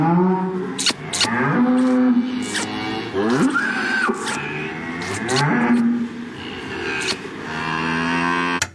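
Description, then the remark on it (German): A cow moos loudly, a string of long, drawn-out lowing calls with rising and falling pitch, one after another for several seconds with barely a pause. “Das war ein Dialog mit einer heiligen Kuh.”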